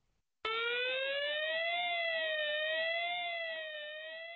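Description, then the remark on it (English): A loud warning siren of the warning system at the Basra airbase in southern Iraq starts abruptly and wails continuously, alerting Czech troops, its pitch slowly rising and falling with a harsh, layered electronic tone and no voices present. “The siren of a warning system at the Basra airbase in southern Iraq alerted the Czech troops just seconds before an insurgent rocket hit their section of the base.”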